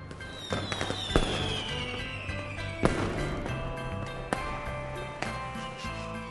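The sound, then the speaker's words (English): Bright, colorful fireworks bursting in a series of sharp cracks and pops, with a few louder booms standing out over a steady crackling wash, with no voices. “The fireworks are so bright.”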